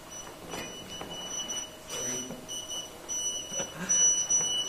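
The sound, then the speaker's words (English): An electronic alarm keeps sounding with steady, piercing high-pitched tones that pulse on and off, moderately loud over a noisy background. “It's like a car alarm.”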